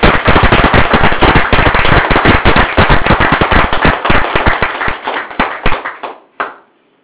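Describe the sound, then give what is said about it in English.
Loud, dense applause from a crowd for wives who have been peacemakers, a rapid wash of many hands clapping together that gradually thins out into a few scattered claps before stopping. “Maybe we can give a very big applause for all the wives who have really been a peacemakers here.”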